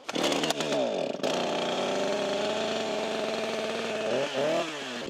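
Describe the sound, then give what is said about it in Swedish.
A chainsaw sputters to life with a rising roar, catches after a brief stumble, then runs at a loud, steady buzzing idle with one short rev near the end. “Vill du visa lite med den här motorsågen då? Ja, nu kan vi se om vi får den till gå.”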